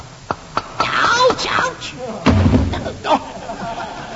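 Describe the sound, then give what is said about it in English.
A doctor strikes a patient's knee with a hammer to test reflexes: a few quick, sharp taps followed by a heavier thud that breaks the hammer, fairly loud, with people talking and a moaning voice around the hits. “Aren't you supposed to tap his knee?”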